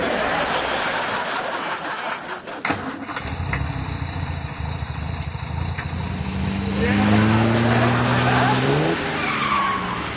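A hotwired car's engine roars up through its gears, the pitch climbing steadily as the vehicle accelerates. Rough road and tire noise runs underneath, with a sharp knock early on.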